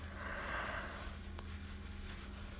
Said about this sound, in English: Excuse me for yawning.